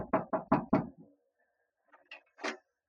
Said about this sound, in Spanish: Calimán ha llamado por 3 veces sin obtener respuesta. Abre la puerta